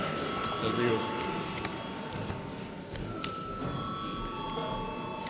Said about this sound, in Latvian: Paldies, vairāk nav priekšlikumu šajā likumprojektā, aicinu nobalsot par likumu. Paldies, lūdzu zvanu.